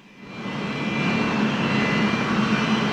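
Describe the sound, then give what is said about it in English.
A steady, loud jet-engine roar from track-drying jet blowers swells up in the first second, then holds as a dense whoosh with a faint high whine, with no voices. “I think the cars are on the track, but I can hear the jet blowers going by.”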